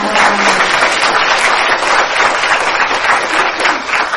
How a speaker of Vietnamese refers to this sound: Trong tràng pháo tay đó.